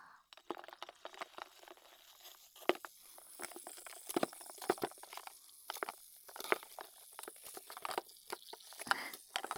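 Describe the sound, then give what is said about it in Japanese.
Crackling fizz of a carbonated drink poured over large ice, with irregular pops and bubbly crackles scattered throughout, fairly quiet and continuous with no voices. “氷が大きいからボコボコします。”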